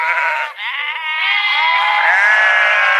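A sheep bleats loudly, one long quavering cry that breaks briefly near the start and then carries on, with no voices present.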